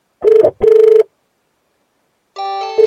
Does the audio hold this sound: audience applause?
no